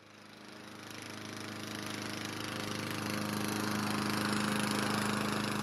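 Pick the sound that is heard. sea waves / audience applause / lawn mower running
lawn mower running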